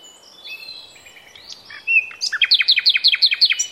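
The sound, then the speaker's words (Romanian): Birds singing outdoors on a sunny, clear-skied spring day in a small park behind an institute building: thin whistled notes lead into a clear, rapid series of about nine bright descending chirps, fairly loud, with no voices. “Cântă păsările. E primăvară.”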